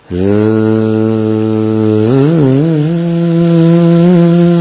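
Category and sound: insect, bees humming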